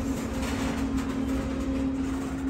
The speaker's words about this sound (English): Oh, the train is coming backwards, both of them.